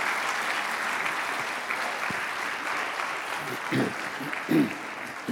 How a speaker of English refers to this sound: You can give them a big hand if you'd like. They're precious families.